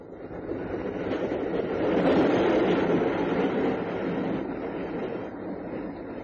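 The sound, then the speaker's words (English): A steady, broad rumble of a train running on rails during a journey west, heard from inside a compartment, swelling slightly midway with a dense low roar and faint rhythmic rattling, continuous throughout with no voices. “It was to Cannon that she filled in the details on their journey west in the train compartment.”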